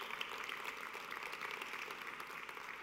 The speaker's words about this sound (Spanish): Y si usted lo cree, levántale un fuerte aplauso al Señor.